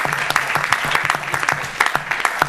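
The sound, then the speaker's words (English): An audience applauds steadily for a Public Architecture award from the Institute of Architects, Western Australia, to Wanangarra Stadium. Many hands clap in a dense, even patter of sharp claps that stays fairly loud throughout, with no voices standing out. “How about a round of applause for all we have?”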